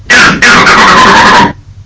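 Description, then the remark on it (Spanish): A vervet monkey's leopard alarm call: two loud, harsh barking calls, a short one followed by a longer sustained one, clear with no talking. “Por ejemplo, este es el grito para leopardo.”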